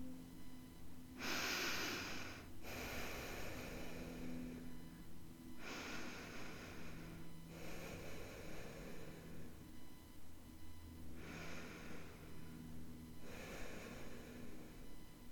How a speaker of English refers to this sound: You're not pushing the air out. You're not trying to take a deep breath. You're just merely breathing in and out naturally, counting. You're going to count on your own.